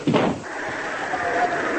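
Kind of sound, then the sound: household object, door closing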